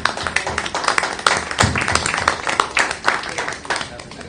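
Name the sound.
round of applause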